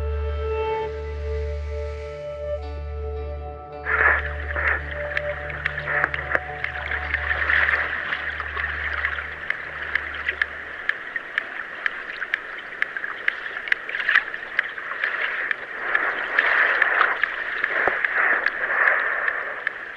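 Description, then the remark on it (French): Sharp sperm whale clicks tick irregularly through hydrophone water noise, with a low droning boat engine hum fading out partway through while the clicking continues steadily. “on entend un cachalot, au moins un, voire deux, en fait. C'est-à-dire qu'on entend des clics”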